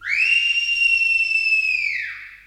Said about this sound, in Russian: Одну минутку, прислушайтесь. Мне хочется, чтобы и вы вместе со мной услышали пение птиц. Слышите?